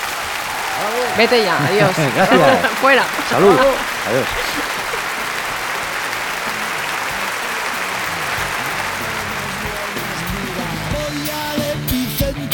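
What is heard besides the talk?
applause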